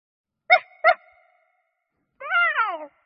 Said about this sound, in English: Pup barks.